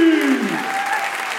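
An audience claps steadily in a dense, even wash of applause that holds at a fairly loud level, with a brief vocal tone or cheer audible at the very start.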